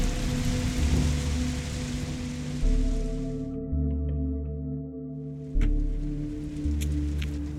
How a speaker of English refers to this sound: Alright, that's it. Come on, let's get out of the rain.